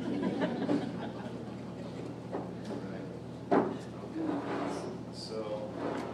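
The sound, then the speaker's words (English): Wooden creaks and scraping as a child's folding wooden step stool is converted into a chair, its seat back raised to rest on a longer slat across the seat, with one sharp knock partway through as the part settles, and a voice murmuring faintly underneath. “Yeah, and one of these slats across the seat of the chair is a little bit longer than the others, so this seat back can come up here and just rest right there.”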